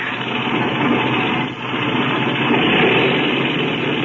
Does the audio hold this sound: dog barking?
no